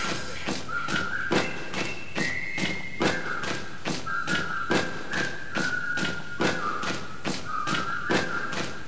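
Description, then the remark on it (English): Feet stomp on a floor in a steady rhythm, roughly two heavy thuds a second, with a thin whistling tone drifting over the beat and no talking. “I said stomp with me.”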